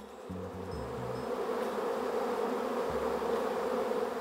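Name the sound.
wasps buzzing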